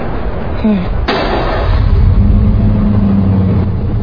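A car engine revs and accelerates, its low, steady drone climbing in pitch, after a sharp thud like a door slamming early on.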